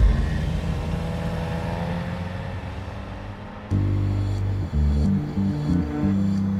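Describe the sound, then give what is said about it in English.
A car engine hums steadily and slowly fades as it drives off. Then a loud, low, sustained tone cuts in with stepped pitch changes, like music starting. “And I just started my car and drove away.”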